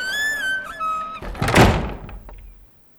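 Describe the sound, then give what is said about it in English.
A heavy tunnel door creaks with a high, drawn-out squeal, then slams shut with a loud, booming crash that rumbles briefly before fading to silence. “The door of the tunnel closed behind him with a big crash.”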